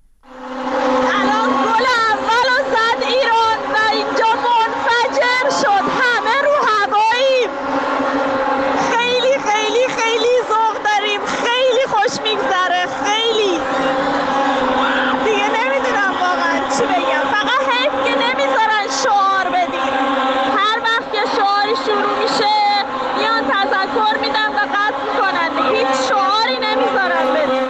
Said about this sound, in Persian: این هم باز صدا از داخل استادیوم، یکی از خانم ها برای ما فرستاده. ببینیم بعد از اولین گل چه اتفاقی افتاده.